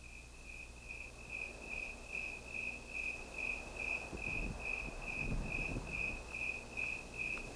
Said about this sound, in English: Listen to this section of tape made just at dawn. You'll hear the civilized sounds of a lady's high heels tapping their way down the walk as the eternal canyon crickets sound their quiet song to the morning sun.